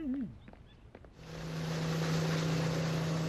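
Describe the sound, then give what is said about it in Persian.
A small motorboat engine, on the father's small boat, starts up after a brief quiet moment, settling into a steady droning hum with a constant low tone and rushing water-and-wind noise that continues to the end. “یادم نمیاد قایق کوچیکه پدرم اینقدر بود آقون بوده باشه.”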